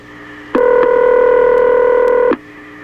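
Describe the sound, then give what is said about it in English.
A single steady electronic touch tone from a telephone keypad, as a radio station dials the White House, holds at one pitch for nearly two seconds, loud and unbroken, then cuts off abruptly. No one speaks. “Incidentally, if you want these secret phone numbers we're calling, we'll tell you if you want to know.”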